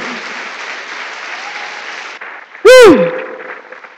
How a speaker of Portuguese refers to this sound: Mas dê um aplauso para o Senhor, porque Brasil tem que ser e tem que conhecer Jesus.